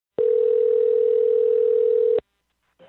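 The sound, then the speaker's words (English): A single steady telephone ringing tone from an outgoing call placed by a journalist sounds for about two seconds, clear, then stops into silence before a voice briefly starts to answer. “but their phone number is easily accessible, so I gave them a call, and honestly, I didn't know what to expect.”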